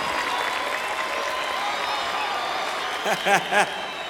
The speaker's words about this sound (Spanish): Muchas gracias, maestro. Un fuerte aplauso para la Sinfónica.